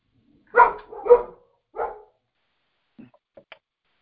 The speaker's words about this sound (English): I hear dogs.